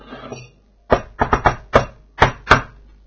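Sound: knocking on a door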